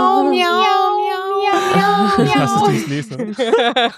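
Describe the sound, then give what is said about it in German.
A person imitates a cat with a long, drawn-out meow, loud, followed by lively, excited talking. “Miau. Ich mache das so geil.”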